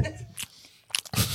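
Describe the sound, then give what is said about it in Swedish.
Moist chewing and smacking sounds in a few quick bursts, like someone eating, with brief crunchy clicks between. “Det har varit en muckbang idag.”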